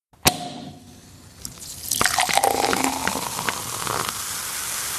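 A sparkling wine cork pops once with a sharp, loud crack, followed by a brief hush and then steady fizzing and bubbling as the wine is poured into a glass.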